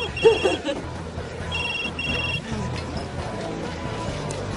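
A mobile phone rings with two short bursts of high electronic trilling, close by, over a busy bar's background chatter and murmuring voices.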